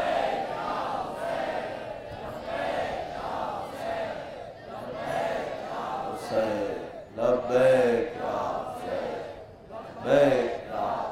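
A large crowd chants the religious slogan "Labbaik Ya Hussain" in unison, loud and rhythmic, with repeated surges of many voices shouting together across the whole stretch.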